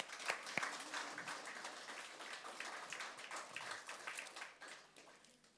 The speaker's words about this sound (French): Est-ce qu'on peut applaudir ce roi de fortune ?